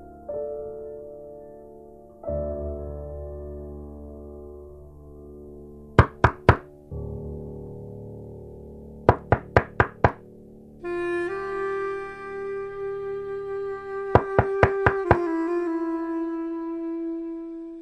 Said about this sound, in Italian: Quando udirono bussare alla porta, sussultarono entrambi. Benché sull'attesa di quel suono si erano concentrati istintivamente dal momento in cui l'orizzonte aveva assunto sfumature sanguigne sempre più accese.